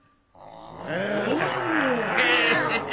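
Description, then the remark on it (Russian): A crowd of people growls and roars together in imitation of tigers, a loud, sustained, overlapping chorus that erupts suddenly and holds for a few seconds. “А рычать, как и вы, и тигры, можете?”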